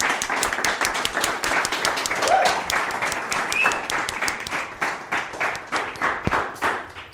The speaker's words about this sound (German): An der Stelle würde ich einmal trotzdem nochmal hier um fetten Applaus für alle Fotografinnen und Fotografen.